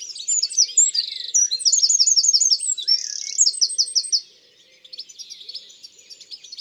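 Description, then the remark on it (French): A wren, a tiny brown songbird perched in a poplar, sings a loud, shrill, rapid and vigorous song of trills and sharp chirps for about four seconds, then continues more softly. It repeats the same phrase at fairly regular intervals. No talking. “On le reconnaît à son chant très vigoureux et strident.”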